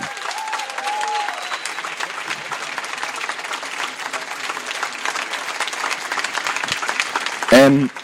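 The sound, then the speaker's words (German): A large audience at a slam stage event claps steadily and loudly for several seconds, a dense wash of hands with a few voices calling out, including a sharp cheer near the end. “Meine Damen und Herren, klatschen Sie in die Hände”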